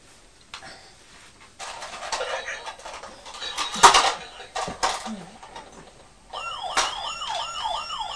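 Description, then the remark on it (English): A voice mimics an ambulance siren with a rising and falling wail that repeats steadily for the last couple of seconds, preceded by muffled rustling and chatter. “Could have done that without the ambulance.”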